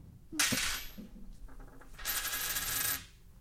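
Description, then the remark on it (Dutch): A coin is flipped with a sharp metallic ping, then clatters and rings as it lands and settles, a bright jingle lasting about a second with no talking. “ik draai hem wel even voor de... Oh ja, voor ja. Het geluid. Even de microfoon erbij.”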